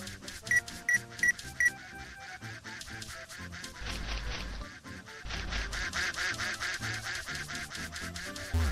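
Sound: duck quacking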